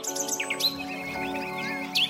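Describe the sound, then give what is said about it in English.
Several birds chirp and sing in quick, overlapping phrases, bright high tweets and trills repeating throughout at moderate loudness, with no one talking. “Birds are a really unique connection to the world around us.”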